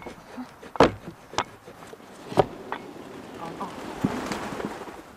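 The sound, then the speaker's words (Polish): A stable door with horses inside is shut to keep out a draught: a few sharp wooden clunks and knocks spaced irregularly, over a faint buzzing, airy background. “Zamykamy stajnie, żeby nie było przeciągu, bo tam drugie te drzwi też są otwarte, więc musi konikom być ciepło.”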